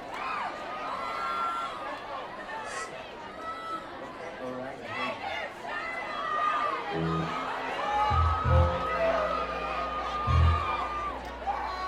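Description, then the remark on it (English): A rowdy audience at a live music show, many voices shouting and whooping over one another like a drunken, angry mob in a continuous, jumbled din, with a few low thumps near the end. “I sound like a drunken, angry mob.”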